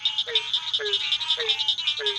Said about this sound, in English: This symphony of frogs fills the muggy night air at Nagusi Plantation.